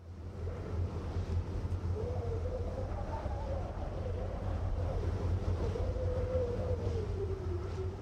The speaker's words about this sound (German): Über der Landenge von Mexiko, dem Isthmus von Tehuantepec, weht der Wind ununterbrochen. Die warme Luft fegt übers Land, rüttelt die Bäume und lässt die Türen der Häuser zuknallen.